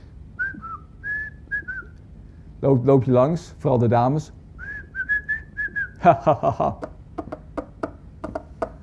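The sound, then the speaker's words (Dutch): A man with dementia whistles short, bright tune phrases in two bursts, with a person speaking in between, followed by a run of sharp, rhythmic tapping clicks. “Hij fluit de hele tijd en hij tikt de hele tijd.”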